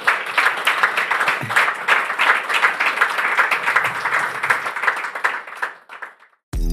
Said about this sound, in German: ich glaube, das ist auch ein Applaus wert für ihre Offenheit hier heute Abend rund um das Thema.